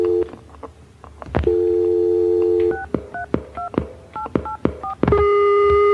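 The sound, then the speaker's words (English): A steady telephone dial tone hums, then a quick run of about eight two-note keypad beeps with sharp clicks between them as someone dials to call their mother, and the flat tone returns without connecting. Clear, no voices. “Why can't I get a number? Because right? The phone's been cut off because I don't pay the bill.”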